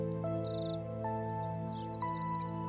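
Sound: birds chirping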